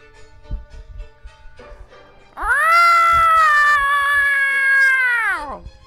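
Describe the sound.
A person mimics a cat with one long, loud, drawn-out meow lasting several seconds, preceded by a short stretch of quiet background noise and faint shuffling, during a playful role-play of a cat United Nations.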